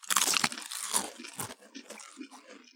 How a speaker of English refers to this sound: All right, are we crunching off? Yep. Yeah. Here, are you ready? Yeah. All right, 3, 2, 1.